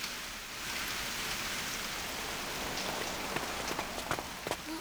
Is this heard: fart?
no